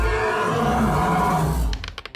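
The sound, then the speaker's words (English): A creature crawling on all fours lets out a loud, harsh shriek that blares steadily for under two seconds, raspy and wide-ranging, then cuts off into a few quick, sharp clicks. “And it's going to go ahead and use Shriek.”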